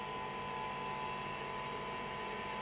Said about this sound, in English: That's our compressor revs, 50 RPM.